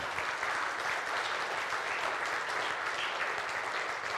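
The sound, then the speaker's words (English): A church audience claps steadily, a dense, even wash of applause holding at constant loudness for a few seconds with no voices breaking through. “It's always good to applaud, but the best part is coming.”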